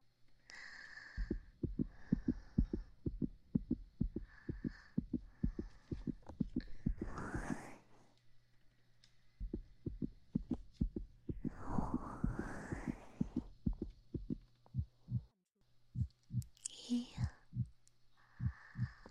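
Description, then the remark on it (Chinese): A muffled heartbeat thumps steadily and fairly quickly, heard with an ear pressed against a person's chest as it settles back toward normal, while soft breathy swells rise and fade over the rhythm now and then. “让我贴着你的胸口来听你的心跳，直到你的心跳变得正常了，我再离开。”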